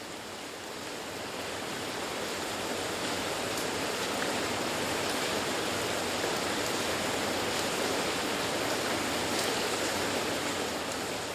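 A steady, dense downpour of heavy rain hisses and patters continuously at an even, fairly loud level throughout, with no voices and no pauses.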